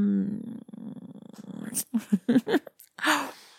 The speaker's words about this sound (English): No, that'll get me purring.